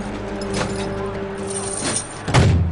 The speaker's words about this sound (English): Yeah, you still got the chain attached. The door won't shut. But the chain.